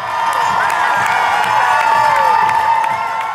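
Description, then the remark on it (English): A large indoor crowd of fans cheers loudly and continuously, a dense roar of shouting voices and whoops echoing in a gymnasium, with no pauses, welcoming the University of Vermont men's soccer team, NCAA Division I national champions, at Patrick Gymnasium in Burlington. “The University of Vermont men's soccer team was given a hero's welcome at Patrick Gymnasium in Burlington yesterday afternoon.”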